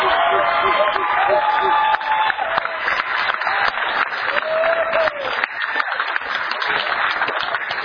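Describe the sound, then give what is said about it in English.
Sustained audience applause in agreement with the Civil Defense Corps' mission to secure United States borders and coastal boundaries, a dense steady wash of many hands clapping for several seconds, with a few faint whistles and cheers rising above it. “Clap if you can agree with that mission.”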